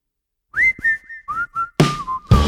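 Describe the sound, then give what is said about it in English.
Someone whistles a short, sweet little song, a string of clear tonal notes that glide and waver, ending with breathier, noisier passages. Fairly loud, with no talking. “When he whistling his sweet little song, you better don't move.”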